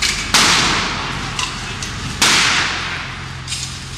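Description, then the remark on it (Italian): Two loud pistol gunshots ring out about two seconds apart, each a sharp crack with a lingering echo, over a steady rumble of outdoor crowd noise; the shots are fired at head height by 20-year-old Mario Placanica from inside a Defender vehicle at Piazza Alimonda. “Mario imbraccia l'arma, la punta ad altezza e uomo e spara 2 colpi.”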